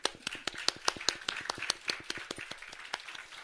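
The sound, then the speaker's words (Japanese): A church audience at Nagasaki Church breaks into applause to welcome a pastor's visiting parents: many hands clapping in a brisk, dense patter of sharp claps that holds steady for a few seconds, with no voices over it. “前の方にいらっしゃいますけれども、あの皆さん、あの大歓迎の拍手をしていただきたいと。”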